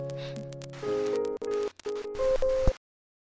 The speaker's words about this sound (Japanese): あー、またこのデッキ、もうダメかな。 雨の音ばっかり聞いてるね。 落ち着くから。